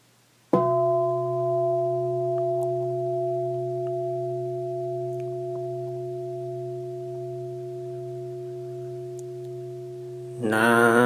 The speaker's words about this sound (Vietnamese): Mời đại chúng đồng chắp tay, chúng ta nghe tiếng chuông và niệm Phật.